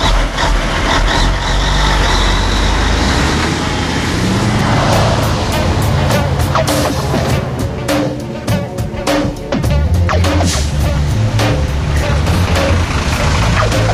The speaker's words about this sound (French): On a décrit le paysage en hauteur, hein, on a le nez dans les nuages, mais au ras du sol, très concrètement, il y a trois camions italiens qui viennent de passer, il y en a un quatrième qui passe, un cinquième derrière, ouais, voilà.